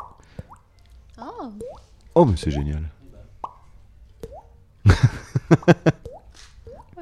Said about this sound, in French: elle fait des bulles avec sa bouche, ce qui est juste extraordinaire.